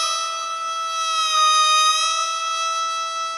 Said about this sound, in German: In der Ferne heult ein Kojote.